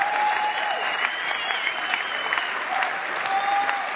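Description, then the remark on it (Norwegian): An audience claps steadily for several seconds at a Sunday service in the Philadelphia church, a dense continuous patter of many hands at a moderate level, with no talking over it, applauding the worship team, technicians and ushers. “Før vi begynner, så bare, kan ikke vi klappe for lovsangsteam og teknikere og møtevakter og alt som er.”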